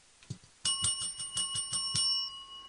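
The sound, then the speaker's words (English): A tiny, high-pitched bell, rung in the morning after a breakfast tray of toast and tea is set down, rings rapidly in a bright, shimmering flurry of about six quick strikes, its clear tones sustaining and fading briefly after a faint tap at the start. “And then they ring a little, tiny little bell. It goes like this.”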